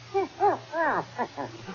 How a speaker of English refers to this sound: Oh, it's only a dog. Here, doggy, doggy.